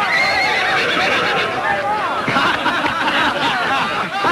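A mare named Bess neighs and whinnies repeatedly in high, wavering bursts while her hooves thud and clop as she runs through a corral, hind legs bucking, with a helmeted sailor riding bareback; all fairly loud and continuous.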